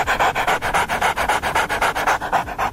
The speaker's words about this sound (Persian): گوریل‌ها و بعضی از پستاندارای دیگه وقتی قلقلک داده میشن مثل انسانها واکنش نشون میدن. البته میمون‌ها چون دستگاه صوتیشون فرق میکنه صدای خندهشون بیشتر شبیه نفس نفس زدن سگ یا کسی که حمله آسمی بهش دست داده.